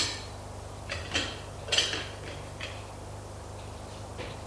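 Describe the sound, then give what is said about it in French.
A grandmother sets a breakfast tray with dishes down beside a boy sitting up in bed: a few brief clinks and clatters of crockery, the loudest near the middle, over a steady low hum with no voices. “» Elle pose le plateau.”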